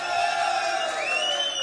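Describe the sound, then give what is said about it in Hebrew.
An audience at a stage event cheers and whoops loudly and steadily as performers are announced onto the stage, with a dense wash of clapping and raised voices filling the whole moment without a break. “שימו לב, תכף יעלו לכאן על הבמה ואני רוצה על כל שם יחיות כפיים שערות.”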